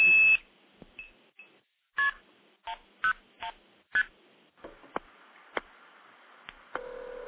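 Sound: telephone keypad dialing tones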